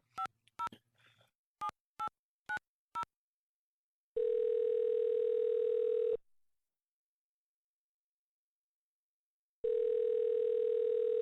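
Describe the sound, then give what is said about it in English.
A quick run of six touch-tone beeps as a number is dialed to call someone at their workplace, then a long, steady telephone tone that stops, pauses in silence, and comes back again, clear with no voices. “I called her at work, where I knew she had to answer the phone.”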